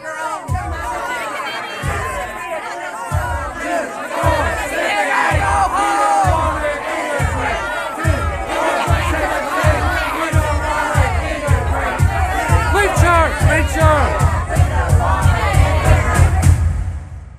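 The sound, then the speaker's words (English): A mob of many voices screams and shouts at once in a dense, continuous roar, over a steady pounding beat that thumps about once per second and builds louder toward the end. “In the meantime, people were screaming behind me what I would have described as a crowd before. To my ear, sounded like a mob.”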